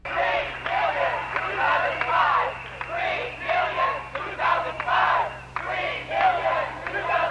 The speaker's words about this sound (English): We're going to go now to hear some of the commotion yesterday in Barcelona, recorded by Davey D of KPFA's Hard Knock Radio.